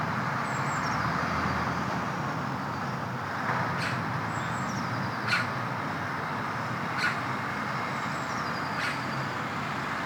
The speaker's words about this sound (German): Wir sind im Stadtpark von Dillingen. Wir hören Vögel und eine kleine Glocke. Wir hören Autos aus der Ferne.